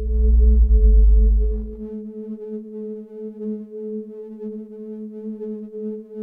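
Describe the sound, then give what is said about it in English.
A low rumbling drone gives way to a steady electronic tone synthesized by superimposing sine waves from sine wave generators, stacked pure harmonics holding a sustained, slightly pulsing buzz with no voices present. “And I started very primitively to synthesize individual sound by superimposing sine waves.”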